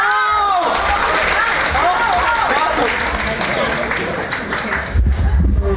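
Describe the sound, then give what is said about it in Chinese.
Loud, steady audience applause at a live xiangsheng (crosstalk) comedy performance fills the whole clip, a dense wash of many hands clapping mixed with scattered shouts and cheering voices from the crowd. “感谢您热情的掌声。”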